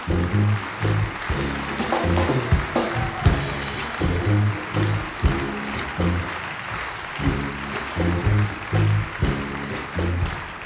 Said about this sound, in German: Ein großer Applaus nochmal und natürlich ein Riesendanke an die Brassband Oberösterreich. Danke, dass du dort bist.